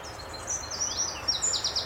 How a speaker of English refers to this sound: And one of the first is the chiffchaff. And I bet some of your listeners will probably recognise this. It's got this wonderful kind of sing-song, ding, ding, ding, ding, ding. It's a really unmistakable sound, and that's why it's called a chiffchaff.